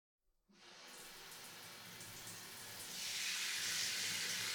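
shower water running

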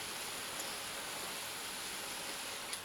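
water spraying

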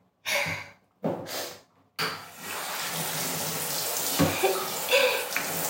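shower water running

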